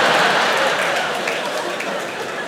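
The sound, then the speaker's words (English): Muted applause from an audience, a steady wash of many hands clapping at moderate volume that eases off slightly over a couple of seconds, with no one talking over it. “Very muted claps for Xanax. You don't really get woos, it's more like, yeah.”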